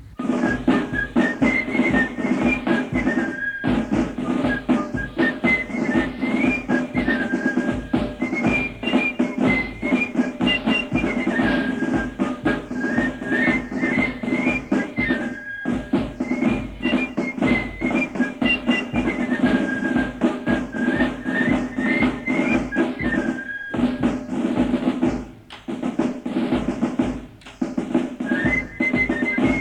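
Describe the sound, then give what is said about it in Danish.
A shrill fife in a drum corps carries a bouncing, repeating melody over a steady, dense low accompaniment, playing continuously and loudly throughout with only a couple of brief dips. “I spiller begge to fløjte i tamburkorpset.”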